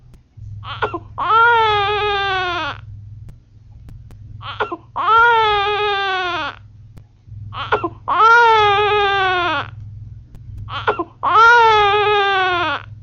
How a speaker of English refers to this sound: Next, the three cries which mothers soon recognize. One, the cry of a hungry infant.